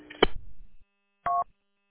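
Two short phone keypad beeps, the first with a brief clicky burst and low rumble, the second a clean dual-tone beep about a second later, then silence, as a number is accidentally dialed while a contact is being saved in a phone. No one speaks.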